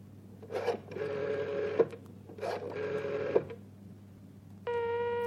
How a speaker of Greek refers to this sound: Φέρτε το τηλέφωνο κοντά σας, σχηματίστε το νούμερο.